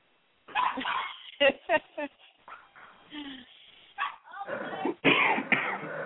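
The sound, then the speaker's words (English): A person's pet dog barks repeatedly in short, sharp bursts at an uneven pace, some barks loud and others softer, mixed with whimpery and throaty vocal sounds and people talking. “Oh, still barking.”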